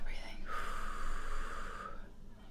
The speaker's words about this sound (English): Okay, we're breathing.